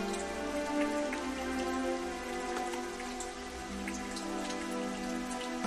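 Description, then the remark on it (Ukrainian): Large water droplets from fog drip onto yellowed willow leaves in cold, damp autumn weather: a continuous soft patter with scattered distinct droplets tapping, even and unbroken throughout, with no voices. “Туман великими краплинами сідав на пожовкле вербове листя, і наче дощ стікав на землю.”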